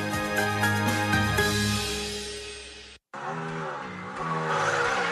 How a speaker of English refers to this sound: You can't feel the roar of the engine through this. Get the full experience at Auto Show 2016.